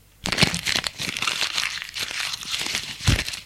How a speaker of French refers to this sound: Il froisse le papier et le met dans sa poche.